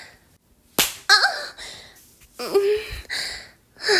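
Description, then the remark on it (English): One sharp slap of a hand against a buttock rings out, followed by breathy gasps and short vocal exclamations, with no other slaps after it. “Slap my ass, sir.”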